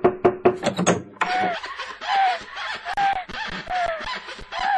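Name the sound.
knocking on a door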